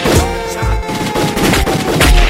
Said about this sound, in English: Gunshot in the air.